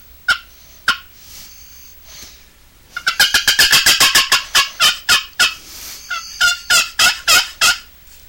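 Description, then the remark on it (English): A turkey cackle made on the right side of a turkey call: two separate clucks, a short pause, then a long rapid run of sharp, loud notes that stutter along unevenly before trailing off. “Little cackle. Another style of cackle.”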